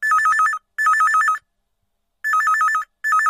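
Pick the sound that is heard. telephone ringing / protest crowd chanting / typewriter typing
telephone ringing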